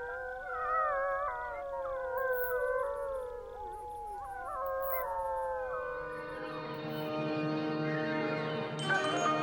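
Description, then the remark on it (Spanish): Several wolves howl together in a long, overlapping chorus, their wavering tones rising and sliding over one another, then merging into a steadier, fuller howl near the end. The howls were provided by nature sound expert Carlos de Ita. “que se escuche alta y fuerte, como los aullidos que nos ha cedido Carlos de Ita, una de las personas que más sabe sobre la pérdida de los sonidos en la naturaleza.”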